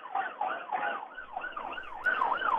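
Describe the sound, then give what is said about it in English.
An ambulance siren wails in a rapid rising-and-falling yelp pattern, loud, with traffic rumble underneath as the ambulance turns around near the entrance and moves past, in Manama. “It too now is turning around. You'll hear the siren as it comes past.”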